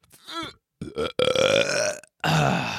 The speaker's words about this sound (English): Just take a big ass belch. Big old belch.